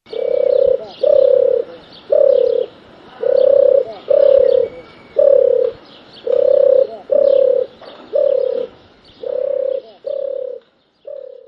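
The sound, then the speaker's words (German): A turtle dove's courtship cooing: a steady series of about a dozen soft, purring coos in an even rhythm, clear, with no other voices. “Als Beispiel hören Sie nun die Balzrufe der Turteltaube.”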